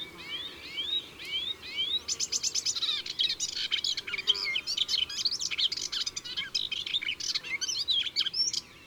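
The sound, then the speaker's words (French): A melodious warbler sings a fast, rambling, chattering song of varied twittering notes, delivered in quick continuous bursts, clear against a quiet background. “l'Hippolaïs polyglotte est beaucoup plus nerveuse”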